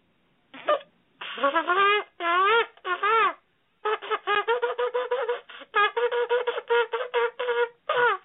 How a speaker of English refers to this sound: All right, so hopefully you get a sense of what a shofar sounds like. It's something you put in the corner of your mouth. You try not to get too much air in.